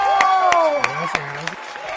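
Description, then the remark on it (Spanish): A crowd applauds and cheers to welcome the guest Franco, an actor, host and dancer. Sharp claps stand out over a sustained wash of excited voices, fairly loud and steady for the whole stretch. “Vamos a darle un aplauso de bienvenida con mucho cariño a nuestro queridísimo Franco.”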